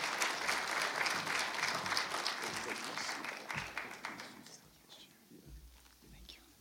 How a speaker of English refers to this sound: So I just want to welcome him on the stage now. And as we together put a hand applause as we welcome him on the stage.